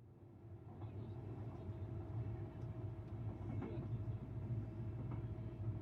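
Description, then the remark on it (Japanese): A commuter train rumbles as it starts moving again after a safety check, a steady low mechanical drone with a faint tonal hum and occasional clanks, heard from inside the carriage with no talking. “安全確認が取れましたので運転を再開いたします。列車動きます。”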